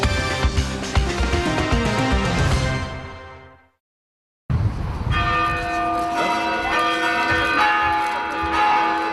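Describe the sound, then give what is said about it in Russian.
Festive church bells peal in a dense, overlapping clangor that fades out, breaks for a moment of silence, then resumes with steady, loud ringing tones, with no voices, opening the jubilee celebrations of Metropolitan Irinei of Dnipropetrovsk on his name day, September 5, in Dnipro. “С праздничного колокольного звона начались юбилейные торжества Днепропетровского архипастыря.”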